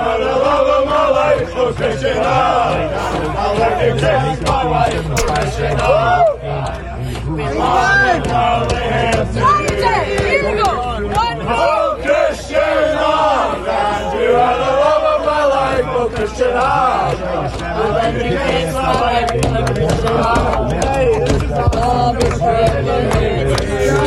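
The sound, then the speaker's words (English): A large crowd of Scottish football fans sings loudly in unison while banging on the Red Sox WEEI studio on Lansdowne, a dense, continuous wall of chanting voices with rising and falling melodic lines and occasional banging, sustained throughout. “Because I got a video, and it was of a bunch of Scots banging on the Red Sox WEEI studio right there in Lansdowne. Down and singing this.”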